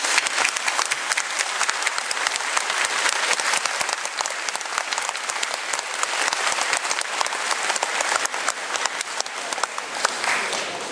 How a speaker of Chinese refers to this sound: 在欢迎我们的讲员以前，能不能够请大家等一会用最热烈的德州的掌声欢迎